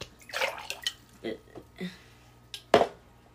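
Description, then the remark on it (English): Sparkling water that has lost its carbonation being poured, heard as a series of irregular splashy, hissing gurgles with short pauses between them, ending in one louder, sharper splash. “Let's try the sparkling, and then we'll give bottle cap ratings on both.”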